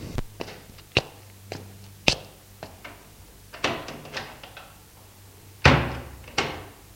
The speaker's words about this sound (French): Entré, il referma la porte et se plaqua contre la porte.